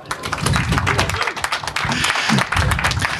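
Steady crowd applause fills the whole stretch, a dense wash of many hands clapping at an even, loud level, with a few voices faintly murmuring underneath.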